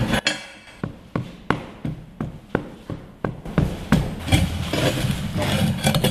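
A hammer strikes metal from behind in a steady rhythm, roughly nine sharp, ringing blows, over a low rumbling engine-like hum that grows busier toward the end.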